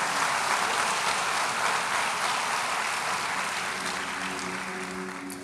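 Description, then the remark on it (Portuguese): Sustained applause from a church audience during a morning service as they applaud the Lord, a dense steady clatter of many hands clapping at once, staying loud throughout and easing only slightly near the end, with no voices standing out. “Aplauda o Senhor.”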